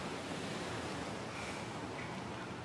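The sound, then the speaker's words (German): A steady, rushing wash of sea surf rolling onto the shore, fairly soft and continuous with no distinct individual crashes, and no voices. “Es tut gut, das Meer zu sehen.”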